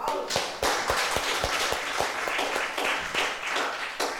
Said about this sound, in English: Let's start off with another round of applause for God.